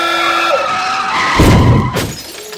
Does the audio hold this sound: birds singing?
no